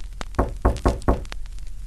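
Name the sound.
knocking on a door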